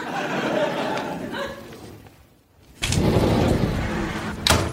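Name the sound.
door sliding shut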